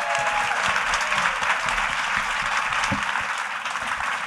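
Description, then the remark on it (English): An audience claps steadily, a dense wash of many hands that holds at an even, fairly loud level throughout without any talking over it. “Round of applause”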